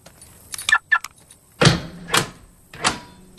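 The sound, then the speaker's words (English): A car parked outside a shop called Last Chance Superette has its doors locked remotely as the driver walks to the shop: a pair of quick chirping beeps, then three loud mechanical clunks from the lock actuators, spaced about half a second apart, with no talking. “As he walks to the shop, he locks the car remotely.”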